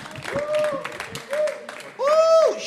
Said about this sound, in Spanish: fuerte aplauso para Titito Sánchez